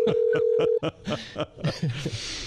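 A steady, mid-pitched ringback tone from an outgoing phone call placed live on air sounds for under a second, then cuts off into a few short, breathy bursts of voices and laughter.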